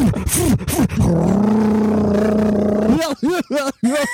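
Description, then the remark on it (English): A voice imitates a lawnmower starting: a few short sputtering pulls, then a steady, buzzing low drone for about two seconds, followed by more choppy vocal bursts. “Uh-oh, better start up the lawnmower.”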